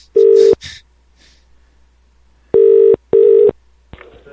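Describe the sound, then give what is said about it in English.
A phone line rings out with steady, buzzy mid-pitched tones: one short ring, a long pause, then two more in quick succession, followed by a faint click-like rustle as the line picks up. “Okay, we'll call her back.”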